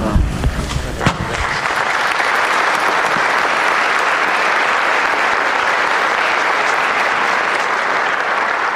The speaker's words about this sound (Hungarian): És tapsal köszönik meg a mai napon is a jelenlévő zarándokok Ferenc pápa áldását és az ő tanítását. Elég kevesen vannak jelen a 6. Pál teremben, de ez nem volt semmiféle akadály, hála Istennek.